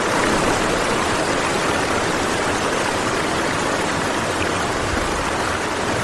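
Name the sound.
flowing river water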